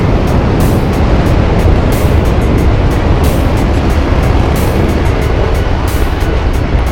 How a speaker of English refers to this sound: T-minus 5, 4, 3, 2, engine start, 1, and liftoff of Delta II and NOAA's Joint Polar Satellite System 1, making the U.S. a more weather-ready nation.